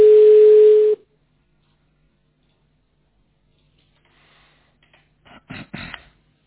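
A steady telephone ringback tone plays for about a second, then the line goes quiet before a few brief clicks and rustles, as if the call is being picked up.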